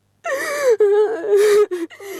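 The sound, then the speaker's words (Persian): A woman sobs, high wavering wails broken by sharp, ragged gasps for breath in a few short bursts, with no words spoken. “دختر مادرت برد بمره حتی تال گریه میکنی”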